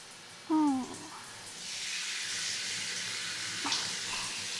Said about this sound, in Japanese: はーい。じゃ、シャワーするよ。シャワー。